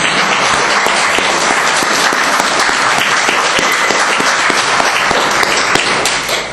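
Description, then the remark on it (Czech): An audience applauds steadily for several seconds in praise of God, a dense, loud wash of many hands clapping at once with scattered sharper claps standing out, and no talking over it. “Pojďme mu zatleskat za to, že on je s náma.”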